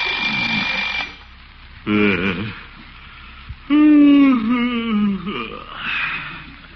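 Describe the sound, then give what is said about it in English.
An alarm clock rings in a few loud, jangling bursts separated by short pauses, with groaning, yawning vocal sounds mixed in, early morning in the little town of Summerfield as the Great Gildersleeve wakes up. “Oh, alarm.”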